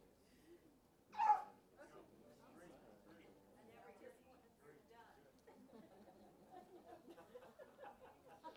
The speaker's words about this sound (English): Sound like a charismatic Holy Ghost sneeze to me. I feel the power.